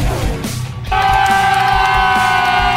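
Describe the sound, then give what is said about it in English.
A race crowd at the Super Cheap Auto Bathurst 1000 applauding and warming up, a dense wash of noise that briefly dips, then returns louder with a steady, humming drone layered over it until the end. “Listen to the crowd warming up.”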